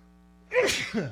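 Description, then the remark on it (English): A single loud sneeze bursts out on air after a moment of near silence, a sharp breathy explosion with a brief trailing vocal tail, with no talk during it. “The first sneeze in history on air.”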